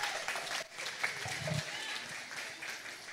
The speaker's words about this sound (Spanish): Los felicito. Un aplauso. Dese un aplauso ustedes solos, por favor.